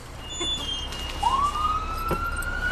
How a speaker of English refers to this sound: As we're talking, sure enough, the klaxon goes off. That a call? Sometimes, yes. What? All right, this one's ours. It's in our district, so we'll go to this.